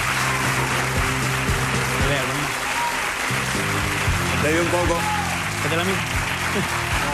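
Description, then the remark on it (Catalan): An audience claps steadily and loudly throughout while many voices chant a name and shout over the applause to encourage a man too moved to speak, rising and falling in a rough rhythmic pattern. “Que el podem sentir ara perquè després de tot aquest aplaudiment”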